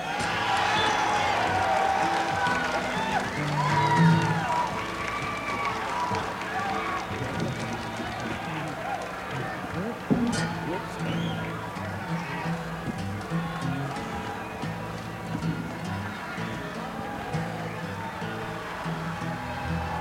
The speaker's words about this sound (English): All right, how do you expect us to play music when you're screaming? Cool it, you guys. Cool it, cool it. You gotta start acting like a mature, responsible audience.